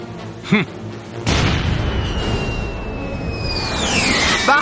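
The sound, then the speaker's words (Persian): A single loud cannon blast from a ship booms out after a brief vocal sound, fired as a warning shot at a pirate ship, followed by a sustained roaring rumble and a high, descending whistle that fades near the end. “وای، بهمون شلیک کردن.”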